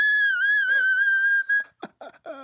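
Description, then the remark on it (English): A singer doing vocal runs holds a high, piercing whistle tone, steady and loud for over a second like a tea kettle, then breaks into a few short, choppy vocal bursts. “It's more of a tea kettle than a whistle tone.”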